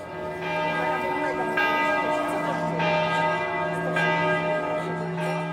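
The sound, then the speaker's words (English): Large cathedral bells ring out the hour in a steady sequence, a new stroke roughly every second, their deep resonant tones overlapping and sustaining into a continuous ringing wash. “The cathedral bells marking time.”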